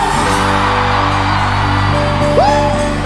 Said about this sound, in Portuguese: Só quem for aviãozeiro, por favor, dá um gritão. Quem tá feliz faz barulho.